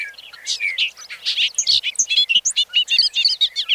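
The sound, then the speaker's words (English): A bobolink sings its last song of the evening over an open field across a road: a rapid, bubbling, jumbled song of tumbling metallic notes, continuous and fairly loud, heard clearly over a quiet background with no voices. “Across the road, over the open field, a bobolink sings his last song of the evening.”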